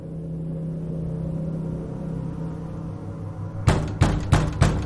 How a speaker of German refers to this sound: Durch Hämmern an ihrer Wohnungstür wurde sie aus dem Halbschlaf gerissen.